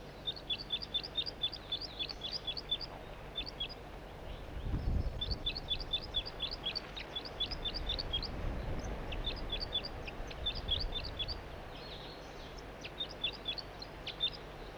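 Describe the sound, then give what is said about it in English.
A juvenile bird, now on its perch in a tree and recorded from right underneath it, sings loudly: rapid bursts of high, thin chirping notes repeated in quick trills with short pauses between phrases, over a low rumbling background. “Rather loudly given, but I'm right underneath the tree that the bird is in.”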